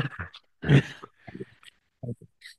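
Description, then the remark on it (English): A person imitates a pug's breathing with a loud, wheezy snort followed by several shorter snuffling grunts and breathy puffs, spread unevenly across a couple of seconds. “Maybe it's like a pug, the way they breathe.”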